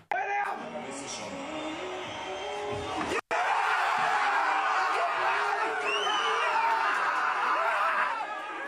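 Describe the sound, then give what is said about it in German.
A large crowd at a public viewing in Austria cheers and roars loudly and continuously as Messi misses a penalty, with whoops, shouts and scattered laughter, a brief cut near the middle, then the jubilant din resumes at full strength. “Ja, so jubelt also Österreich, wenn Messi einen Elfmeter verschießt.”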